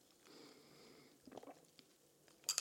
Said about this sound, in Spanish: mientras le doy un sorbo a mi cold brew.